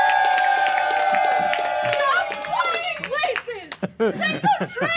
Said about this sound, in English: Let's hear a round of applause as we welcome to the stage Coffee Pot Flight Attendant.